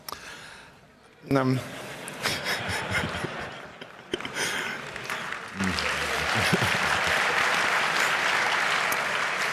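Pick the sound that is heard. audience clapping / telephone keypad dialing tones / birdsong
audience clapping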